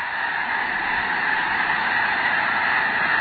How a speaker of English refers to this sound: A closer look reveals 10,000 or more white-feathered snow geese, covering the field in one immense flock.